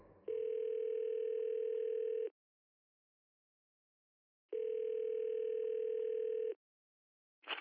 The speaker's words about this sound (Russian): Его разбудил звук телефонного звонка.